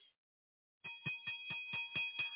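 bell ringing

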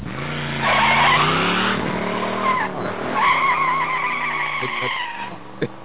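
car driving off

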